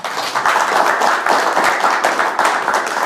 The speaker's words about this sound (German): Und natürlich, wie versprochen, haben wir auch ein großartiges Publikum heute an unserer Seite, wo auch wieder Expertinnen und Experten zu Gast sind. Auch für euch einen großen Applaus.